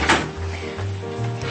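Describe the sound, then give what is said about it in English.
A drawer slides open and shut as someone searches it for a missing item, with a quick knock at the start, followed by a low rolling rumble as it glides along its runners, fairly loud, with no voices. “Is it in a drawer? I can look.”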